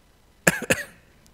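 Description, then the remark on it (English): A person coughs twice in quick succession, two short, harsh bursts, with nothing else around them but quiet. “Coughing if I need to.”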